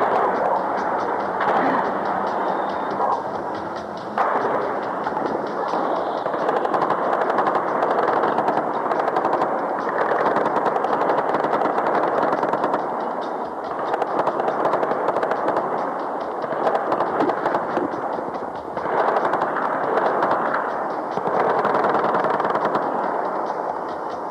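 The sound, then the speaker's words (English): Sustained bursts of rapid gunfire from gunfights that have just erupted crackle almost continuously, with sharp overlapping reports and machine-gun rattles forming a loud, dense barrage that barely lets up. “Just as I'm speaking to you, some gunfights have just erupted.”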